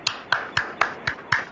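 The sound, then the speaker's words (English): A single person, a radio show host, claps for himself six times in a slow, steady rhythm, each clap sharp, with no talking. “Applauding for myself.”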